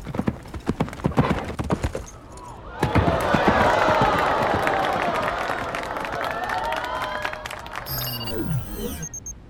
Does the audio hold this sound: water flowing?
no